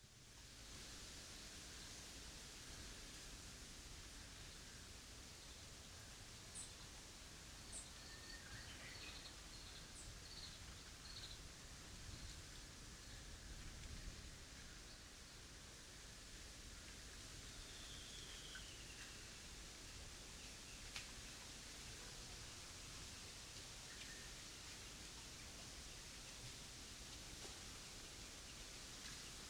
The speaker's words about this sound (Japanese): 鳥の鳴き声や風によって木々が揺れる音など、さまざまな自然音が聞こえてくると思います。